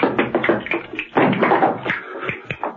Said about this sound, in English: John Steed entered the room from the kitchen, clicking a pair of castanets.